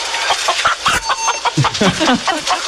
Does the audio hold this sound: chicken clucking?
yes